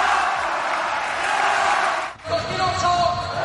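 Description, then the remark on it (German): A large crowd roars and chants loudly and steadily on the Center Court at the Davis Cup final round, pausing for a split second before voices rise again in a sustained, sing-song 'Rafa' chant for Rafael Nadal in his farewell match for Spain. “Bei so viel Emotionen und Rafa-Gesängen auf dem Center Court.”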